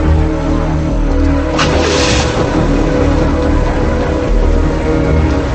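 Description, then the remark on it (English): A car drives past, its engine a loud, steady rumble that swells briefly partway through, with no voices. “She looks at him as he drives past.”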